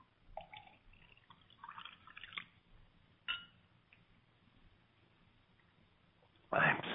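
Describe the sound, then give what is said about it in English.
Water is poured into a glass in short, trickling splashes, fairly quiet, before a louder gushing rush near the end. “do you want some water? Here. Please, water.”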